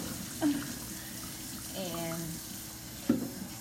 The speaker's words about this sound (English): So I'm gonna wash these dishes while I'm waiting on the water to boil.